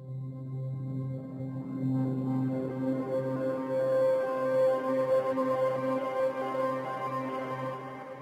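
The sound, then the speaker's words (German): A sustained electronic synthesizer tone with steady harmonic layers, shifting pitch partway through and swelling with brighter upper overtones, playing alone at moderate loudness for several seconds. “Und dann nochmal ein Synthesizer.”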